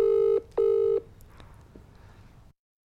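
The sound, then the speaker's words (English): An outgoing phone call ringing: two short, steady buzzy tones in quick succession, fairly loud, followed by a low hiss of line noise and then silence. No one speaks. “I'm going to call him and see if he loves me enough to answer like you did.”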